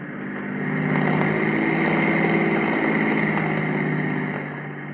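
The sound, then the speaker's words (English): A car engine hums steadily as the vehicle cruises slowly by in the dark at about 2 a.m., with a low, even drone and a faint whine that swells in, holds for several seconds, then eases off. No one speaks. “We'll cruise by slower this time.”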